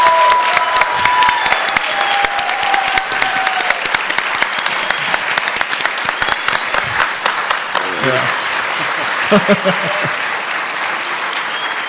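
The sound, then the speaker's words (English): A crowd of people claps steadily for about twelve seconds, giving a woman another round of applause: a dense, loud wash of hand claps, with a few voices calling out near the end. “And she's an example of someone that's instant in season and out of season, so I want to give her another round of applause.”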